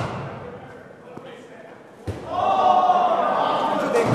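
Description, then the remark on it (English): A sharp crack rings out from a cricket bat striking a ball, then a swell of cheering and excited voices rises and carries on loudly, with a fainter knock heard a moment earlier, inside cricket batting cages in Union City in the Bay Area, where people practice. “So one day I ventured in, and the sound of cracking and cheering greeted me at the door.”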